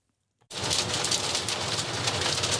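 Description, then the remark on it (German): Hail falls during a thunderstorm in a dense, steady roar of countless small impacts, starting abruptly after a brief silence and continuing loudly and evenly, like a heavy storm drumming on surfaces. “Gewitter, Hagel, Eiskörner, die vom Himmel fallen und Schäden anrichten an Pflanzen, Autos, Gebäuden.”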